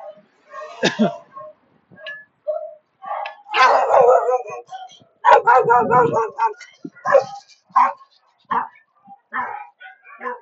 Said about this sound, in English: Okay, there's a dog that's not happy, female dog.